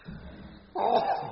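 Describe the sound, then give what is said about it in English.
A single sneeze, caused by allergy, bursts out abruptly after a faint low murmur, a loud breathy, hissing blast that holds for about half a second before trailing off. “Bless you. Allergy.”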